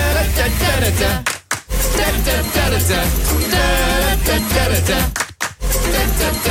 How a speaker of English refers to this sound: Nice claps.